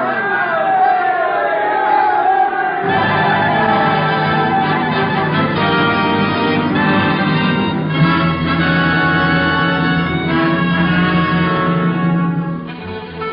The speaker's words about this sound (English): The plane was airborne, the crowd cheered, the birth of airmail, though amusing, was successfully accomplished.